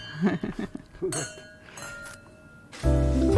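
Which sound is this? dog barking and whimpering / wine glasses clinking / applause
wine glasses clinking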